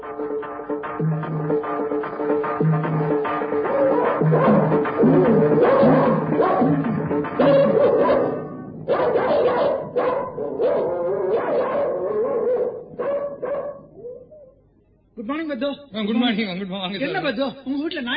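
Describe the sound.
A dog barks and yelps insistently over busy, overlapping voices, then breaks into a wavering whine near the end; the barking is loud and close, sounding agitated.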